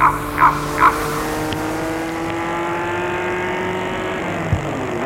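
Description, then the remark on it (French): A few quick thuds like car doors closing as two passengers get into a chauffeur-driven car, then its engine starts up and it steadily drives off, its hum rising in pitch as it pulls away, with no talking. “Galien et Philippe entrent dans la voiture qui se met en route.”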